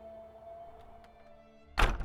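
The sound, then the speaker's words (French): A woman pulls someone inside and slams the door behind them: a single loud door slam near the end, a sharp heavy thud with a brief rattle, preceded by quiet room tone with a faint steady hum. “c'est sans ménagement qu'elle te tire dans le lieu et claque la porte derrière toi.”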